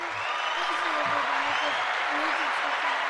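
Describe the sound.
A steady round of applause, dense, even clapping that holds loud for the full three seconds, with a voice faintly talking underneath.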